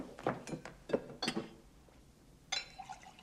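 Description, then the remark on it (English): Glasses clink and knock together in a quick, irregular series of bright taps, followed by a short pause and then a softer rattling clatter, as a drink is mixed with Bacardi. “Excuse me, I'll make myself a little drink.”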